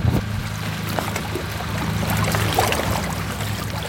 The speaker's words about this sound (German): Was uns empfängt auf der Insel, ist aber nicht Ruhe, sondern Lärm. Traktorlärm, Pumpen, Rufe.